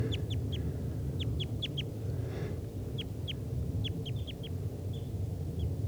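Repeated sharp, downslurred chip calls from three wild type 2 red crossbills, one a red male, in trees near a net, come in quick bursts of two to four notes, high-pitched and fairly loud, over a steady low rumbling background.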